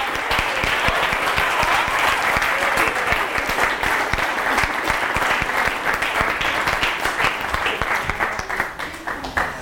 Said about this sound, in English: Yeah, but just before we say the grace together, do all the children want to stand up and show everyone what they've made? We can give you a big clap. Yay!